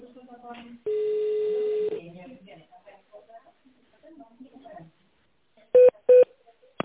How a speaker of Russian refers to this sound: Если вы знаете внутренний номер сотрудника, наберите его в тональном режиме или дождитесь ответа секретаря.